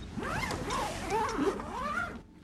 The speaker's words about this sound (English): He puts a case on a table.